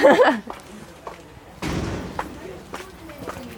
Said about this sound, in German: Wieder durch die Schleuse. Genau. Es ist immer ein stetiges Türen auf, Türen zu.